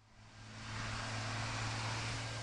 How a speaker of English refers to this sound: In a rush on a recent weekday afternoon, cars speed past Charlotte's oldest cemetery, where many of this town's earliest settlers have been buried for hundreds of years beneath slabs of granite.